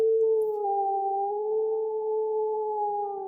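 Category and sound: animal, wolf howling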